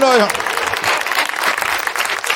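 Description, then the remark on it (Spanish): A brief voice at the start gives way to a crowd applauding, a dense, steady wash of clapping that stays loud for a couple of seconds. “No esperaba el aplauso, esperaba la conexión, ¿no?”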